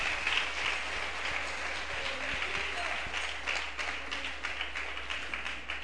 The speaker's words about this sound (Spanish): Dele un aplauso a Él en esta hora.